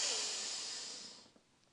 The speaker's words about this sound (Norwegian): Skal vi gjøre det en gang til? Pust godt inn i nesa.